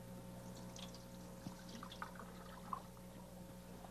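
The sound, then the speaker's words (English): Water pours steadily from a bucket down a just-repaired drain to test it, a soft continuous gush broken by a few small splashes and gurgles, fairly faint and set over a low background hum. “Ready for the water to go down the drain.”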